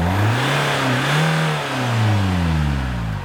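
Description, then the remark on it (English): A car's internal combustion engine revs up loudly, its pitch climbing, dipping, then rising again in a steady roar that holds to the end, with no voices. “The internal combustion engine.”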